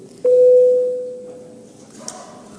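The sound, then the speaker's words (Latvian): A single electronic parliament chamber bell rings out before a vote on the deposit guarantee law bill in its first reading: one steady, mid-pitched tone that starts abruptly, holds for about a second, then slowly fades away, with no talking over it. “Paldies, lūdzu zvanu.”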